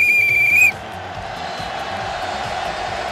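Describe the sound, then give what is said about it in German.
A single loud, shrill referee's whistle blast lasting under a second, followed by a steady murmur of crowd noise in the background. “Beim Fußball pfeifen die auch mit einer Pfeife.”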